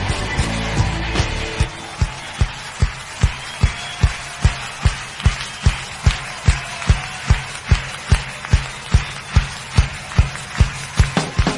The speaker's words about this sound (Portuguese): vive pra aplaudir, pra aplaudir o Senhor.